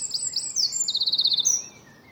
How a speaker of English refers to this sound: But now he's applying them to birds in his garden. This is a wren.